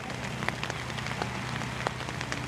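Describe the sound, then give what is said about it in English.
Steady rain patters densely on a hard surface, a continuous hiss broken by scattered sharper drops, with a faint low hum underneath and no voices. “Why would you come to church in the pouring rain?”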